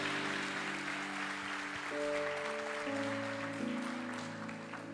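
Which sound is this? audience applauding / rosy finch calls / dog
audience applauding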